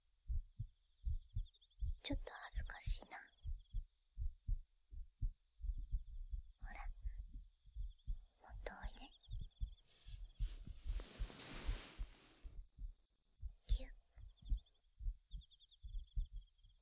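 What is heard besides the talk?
heartbeat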